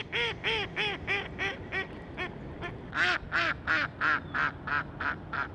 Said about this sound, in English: This week, the sound of mallard ducks on a December day in Blacksburg, Virginia, is the call to explore the annual Christmas Bird Count, organized by the National Audubon Society.